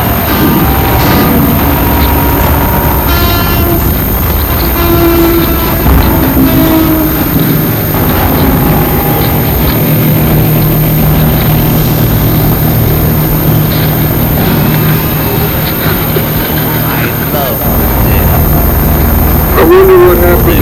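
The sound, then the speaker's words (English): A loud airplane roars overhead, a heavy, continuous rumble with a whining edge that fills the whole stretch and nearly drowns out faint voices beneath it. “plane just to hear yourself talk.”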